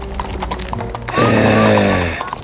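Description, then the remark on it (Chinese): Hooves of a horse being ridden across a quiet field clip-clop in a steady, even rhythm. Then a loud, drawn-out horse whinny breaks in over the hoofbeats before fading, leaving the clopping to continue. “一天，王子骑马穿过一片寂静的田野”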